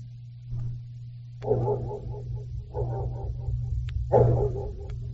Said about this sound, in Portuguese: Muito bem, pessoal do grafite, manda cachorro latindo a 100 metros de distância dentro do tambor